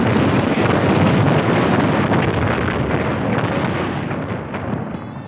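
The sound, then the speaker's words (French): A loud, sustained roar of mortar-style fireworks explosions, a dense rumbling wash of blasts with no distinct pauses that eases off slightly toward the end. No one speaks. “Le consciencieux canard local Ouest France s'en est fait l'écho outragé, en dévoilant au passage l'étrange mue de ce qui était à la base de simples feux d'artifice du type « troisième mariage de tonton Robert » en terrible mortier de guerre.”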